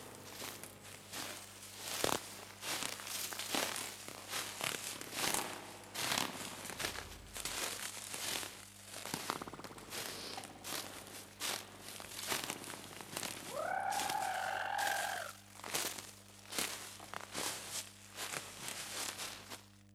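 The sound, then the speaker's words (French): Footsteps crunch steadily through dry branches and leaves in a beech clearing, with dense crackling snaps the whole way. A brief bird call rises partway through, and no one speaks. “C'est carrément des branchages feuilles, branchages feuilles.”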